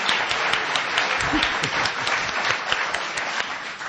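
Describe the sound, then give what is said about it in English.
A crowd at an Edgar Allan Poe bicentennial event applauds steadily to thank the organizers, dense overlapping hand claps forming a continuous roar of clapping that holds at an even, fairly loud level throughout. “And now you clap. Now you clap.”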